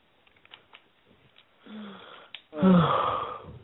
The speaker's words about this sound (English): could you stop yawning, please? Mute yourself if you're gonna yawn.